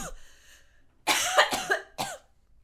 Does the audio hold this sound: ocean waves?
no